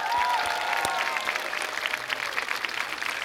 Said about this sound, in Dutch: Apeldoorn, mag je nog 1 keer een enorm applaus. Evander IJsink!